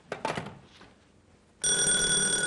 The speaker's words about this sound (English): Darling, that was the front doorbell.